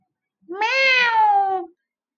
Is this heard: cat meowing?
yes